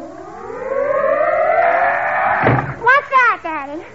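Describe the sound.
A rising, whistling howl of wind swells for a couple of seconds, then the wind blows a door shut with one sharp, loud slam. Brief voices speak right afterward.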